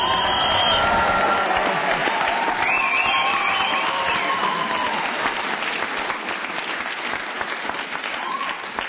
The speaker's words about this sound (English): Yes, that applause was justified.